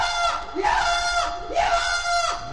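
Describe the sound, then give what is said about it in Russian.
A mule brays loudly for the third time in two harsh, rasping surges, each a drawn-out, wavering cry rising and falling in pitch, with no talking. “Едва посадил плут-малыш на спину мулу своих братьев, как заревел мул в третий раз.”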